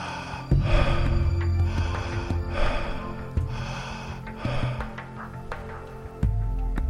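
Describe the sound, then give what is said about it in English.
Rapid, forceful connected breaths in a breathing session follow one another in a circle with no pause between inhale and exhale, fairly loud, over a soft sustained musical drone. “Let the pace of your breathing be rapid, as we illustrated.”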